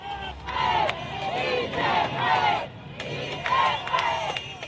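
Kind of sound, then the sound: crowd, protest crowd shouting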